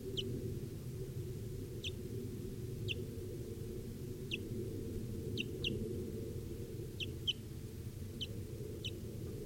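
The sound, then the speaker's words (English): A barely fledged young wild bird, one of a pair, gives short, high-pitched chirps at irregular intervals, sometimes in quick pairs, over a steady low rumbling background hum, recorded at 10:09 a.m. “Recording with a wild bird here now.”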